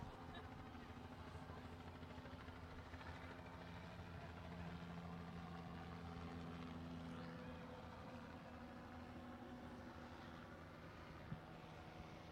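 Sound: helicopter flying overhead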